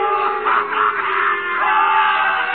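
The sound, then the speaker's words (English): A loud courtroom crowd at the trial of Emile Zola jeers and yells in a dense, continuous roar of many voices, with shouts swelling and overlapping throughout, unbroken from start to finish. “The crowd encouraged to jeer at the man of truth.”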